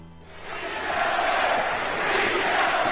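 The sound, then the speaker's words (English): A large arena crowd of fans at the Garden in 1982 roars and chants "Beat L.A." together at the Sixers, a dense wall of many voices that swells louder after the first second and stays loud and sustained. “You hear the crowd chanting to the Sixers? Beat L.A.”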